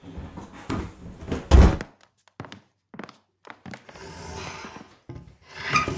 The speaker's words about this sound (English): I recorded some wood squeaking and scraping noises.